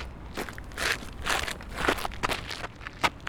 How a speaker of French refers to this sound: Bruitage crunch des pas.